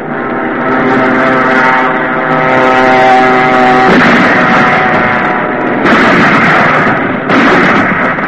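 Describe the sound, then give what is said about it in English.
Heavy artillery booms from new 30-mile guns operating from a railroad burst out in a few loud, rough blasts over a steady, low mechanical drone, with no voices. “Now there are some of our new 30-mile guns operating from railroad inflation.”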